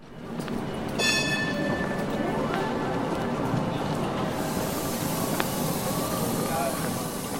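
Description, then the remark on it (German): Steady low rumble of a line 3 tram in motion on a rainy day, heard from inside, with a thin electric whine rising early on and faint muffled voices in the background. “wir fahren jetzt hier im 3-Tram.”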